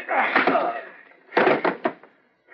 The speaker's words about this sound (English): Just knocked him cold with my pistol butt.